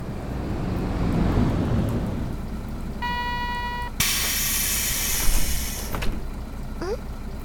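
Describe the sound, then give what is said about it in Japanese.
Steady, moderate rain that is easing off hisses and rumbles in the background, followed by a brief tonal beep and a loud burst of air-like hissing as a bus arrives and pulls up. “さっきよりは雨も弱くなってきたみたい。そのうち雨も上がっちゃうかもね。”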